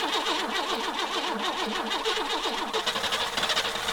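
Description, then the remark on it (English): A car engine cranks over and over with a rhythmic, whining starter, then sputters and fails to catch. The sound is loud, with no voices. “Ha ha ha ha ha ha, that car broken, my new car”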